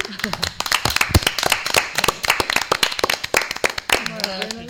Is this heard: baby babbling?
no